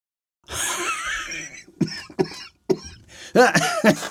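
An old man's coughing fit, loud: one long harsh hack, then a string of short sharp coughs, ending in raspy, wheezing coughs. No one speaks.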